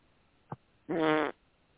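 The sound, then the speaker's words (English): A short blip, then a buzzy, sputtering fart noise made with the mouth, lasting under half a second, fairly loud and rough with a low raspy tone. No talking. “I make a fart noise now.”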